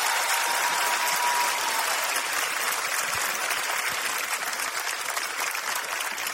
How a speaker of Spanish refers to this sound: Futura promesa. De la comedia peruana, a quien pido un fuerte aplauso, por favor.